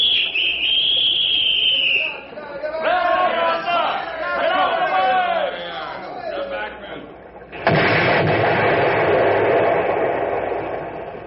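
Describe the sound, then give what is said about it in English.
A high steady warning whistle, then several voices shouting over one another, followed by a sudden loud explosive blast set on a log pile that blows a few top logs off, its rough, noisy roar carrying on for a few seconds. “All we did was blow a few of them top logs off the pile.”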